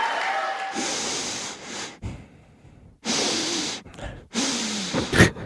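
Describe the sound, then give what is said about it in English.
Heavy, deep late-night breaths drawn loudly through the nose, three long airy inhales and exhales in a slow rhythm, with no talking. “There was a lot of nose breathing going on there.”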